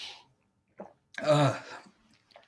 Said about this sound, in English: Excuse me. I can cut out the coughing in post-production, so don't worry. Thank you. I'm just noting down when it happens, so I'll be able to go back and edit it out.